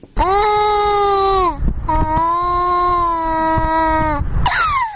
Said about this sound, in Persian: گریه این کودک از گرسنگی است.